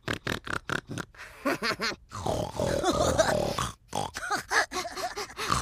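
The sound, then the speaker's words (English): A person snorts and grunts like a pig, a rapid run of loud nasal bursts and throaty oinks with brief pauses, a voice imitating the animal with no words spoken. “I've got a pig nose. Want to eat me?”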